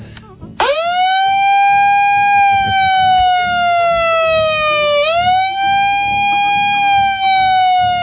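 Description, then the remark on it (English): A loud megaphone siren starts abruptly and wails continuously for several seconds, its piercing tone gliding slowly down, briefly dipping, then rising and holding over a faint low background rumble. “Does that megaphone have a siren?”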